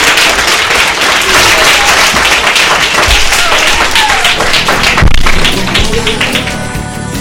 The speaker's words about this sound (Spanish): Pues un aplauso y enhorabuena.